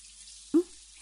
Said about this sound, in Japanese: それではシャワーを流しますね。温度はこれぐらいで大丈夫かしら？